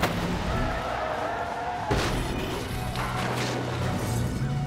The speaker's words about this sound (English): He's hit that other car.